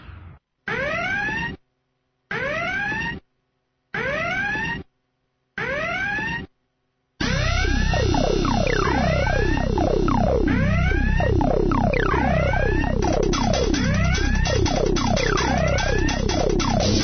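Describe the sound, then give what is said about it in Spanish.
A siren sound effect: four short rising-and-falling wails separated by silences, then a continuous, dense layering of overlapping sweeping siren tones, loud, with no speech. “Y las sirenas que una semana más suenan, suenan a virus, suenan a gusanos, suenan a troyanos y sobre todo suenan a información a donde podemos conseguir los últimos datos en referente a nuevas amenazas.”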